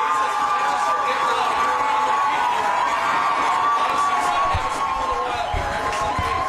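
crowd, loud stadium crowd cheering

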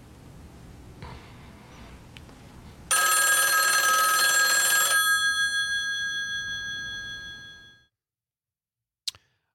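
signal or alarm, telephone ringing

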